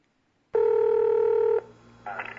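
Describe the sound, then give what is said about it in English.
A loud, steady telephone tone holds for about a second, then drops to a faint line hum before a quick burst of higher dialing-like tones at the start of a Jerky Boys prank phone call, with no voices. “And we're just going to go ahead and start out with a little Jerky Boys prank phone call comedy.”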